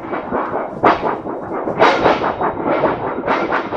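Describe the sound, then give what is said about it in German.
Loud, continuous rumbling thunder from a thunderstorm raging around an airplane in flight, with several sharp, crackling bursts layered over it as lightning strikes, rolling into one another, with no voices. “Es war ein Gewitter, das um sie herum tobte. Plötzlich schlug ein Blitz ein.”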